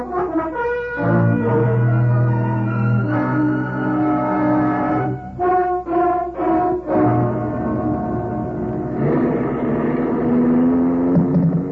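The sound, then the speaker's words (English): A car engine hums steadily with a droning, harmonic tone, its pitch shifting a few times as it revs and changes gear while pulling away, loud and without any voices. “Very well. I'll drive you.”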